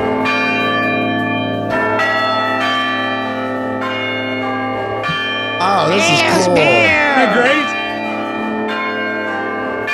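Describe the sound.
Carillon bells in a German church tower built in 1506 ring out a slow melody, played from a series of levers like piano keys, their loud, resonant tones overlapping and sustaining. Midway through, a man speaks briefly over the ringing.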